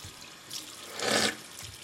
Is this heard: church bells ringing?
no